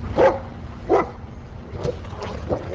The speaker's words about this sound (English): At the end of the day, the dogs frolic and roughhouse outside to let off steam.